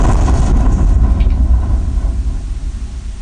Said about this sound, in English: That's the sound of the explosion picked up on a mobile phone several streets away.